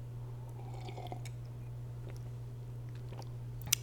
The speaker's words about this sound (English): Hold on, I'm gonna take a sip of my drink.